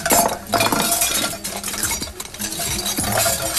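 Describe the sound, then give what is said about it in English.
Girls pile ornaments into a pillowcase, making them clink and rattle together: a steady jumble of small glassy chinks and knocks over soft rustling, with no voices. “Now the girls are piling ornaments into a pillowcase.”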